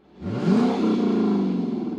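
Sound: car engine revving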